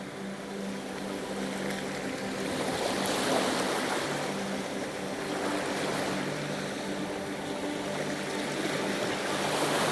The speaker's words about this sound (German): Die sanften Wellen umspielen zart deine Knöchel und verwischen deine Fußspuren.